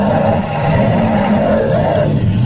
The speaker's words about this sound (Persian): خرس که از این لوسبازی ها هیچ خوشش نیامده بود در یک لحظه نعره وحشتناکی سر داد و با پنجه عظیم خرسیش گذاشت زیر چانه خانمو.